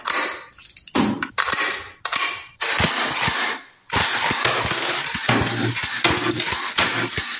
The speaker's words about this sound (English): what you just heard there, a video of what looks like a machine gun being loaded and cocked multiple times.